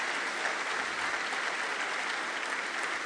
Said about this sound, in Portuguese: Amém, meus irmãos? Aplaudir ele é sempre bom.